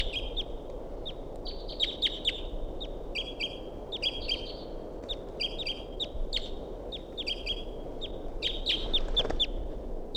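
A wild bird circling around calls repeatedly throughout, with bursts of high, sharp chirps and short trills over a steady low rumble of background noise. No one speaks.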